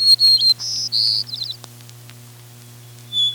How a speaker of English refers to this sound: The white-crowned sparrow's song begins with a short whistled phrase a little like the white throat's, but ends up in a pretty buzzy jumble.